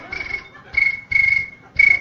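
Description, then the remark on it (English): Crickets chirp in four short, buzzy bursts at a steady pulsing rhythm, each a bright trill repeating about every half second, clear with no voices. “It's the cricket sound I associate with tripping.”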